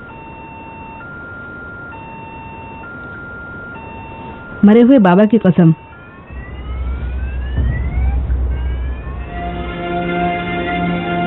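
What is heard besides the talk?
car safety alarm ringing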